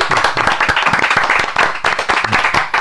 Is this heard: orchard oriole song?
no